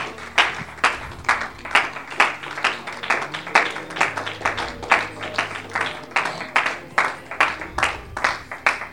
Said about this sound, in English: Amen. Let's give the Lord a hand clap of praise together.